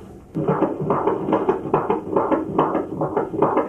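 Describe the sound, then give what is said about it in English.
A fetal heartbeat on a Doppler ultrasound monitor during a prenatal checkup: fast, steady whooshing pulses, roughly two to three per second, beating over a muffled static hiss with no voices. “We're going to listen to the heartbeat now.”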